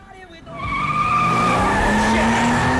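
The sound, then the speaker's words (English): A car revs up and accelerates hard with loud, sustained tire screeching, the engine pitch climbing steadily as it runs a red light and speeds across an intersection, narrowly avoiding passing cars. “Finn floors it, running the red light and speeding across the intersection, narrowly avoiding passing cars.”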